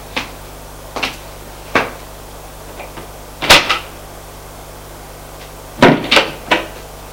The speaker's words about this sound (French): Il y a une autre porte. Ils vont l'ouvrir.